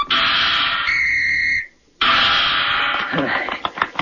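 A seal blows a shrill, steady whistle for about a second during a trick of tossing a ball into the air, turning a somersault and catching it on its nose. It plays over a rushing, noisy background, then cuts off; after a short silence, noise returns with sharp clap-like taps.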